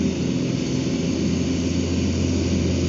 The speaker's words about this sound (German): So, ich warte noch kurz, bis der Rasenmäher da den Berg hochkommt. Der ist auf dem Weg. Im Rückwärtsgang.